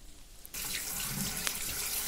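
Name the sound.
water running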